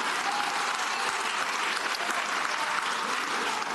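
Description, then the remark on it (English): Steady applause from an audience for members of the 26, honored for their service with the SFPD. A dense wash of many hands claps at an even, fairly loud level without pause for the whole stretch, with no voices standing out. “And today, I'll take the claps for you.”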